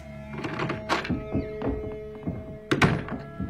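Several dull knocks on a door, spaced irregularly with a couple of firmer raps, over a low steady hum, otherwise quiet.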